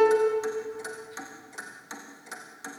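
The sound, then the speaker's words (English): A steady clock ticking, about three ticks per second, sharp, over a low sustained musical drone that fades slightly as the ticks continue. “Doomsday clock is ticking fast, 1 minute till we're through.”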